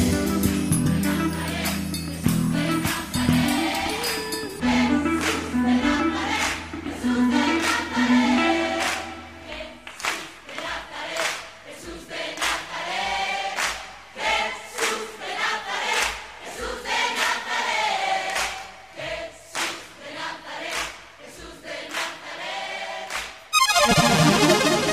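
A recorded song plays, a male singer's voice carried over steady accompaniment with a sustained low bass in the first part, ending abruptly near the close.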